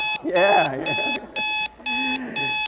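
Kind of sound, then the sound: household object, alarm clock ringing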